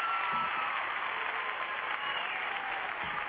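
crowd, audience applause

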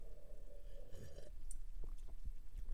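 food or drink, sipping hot coffee

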